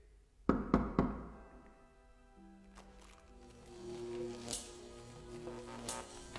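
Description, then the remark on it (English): Three sharp knocks on a wooden door ring out in quick succession as a signal, followed by a quiet stretch with soft sustained tones and faint rustling. “Can someone knock on the door?”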